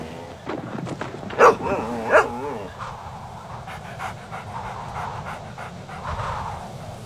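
A dog barks twice in quick succession, loud, then falls quiet against a steady outdoor background with faint rustling and breathy sounds.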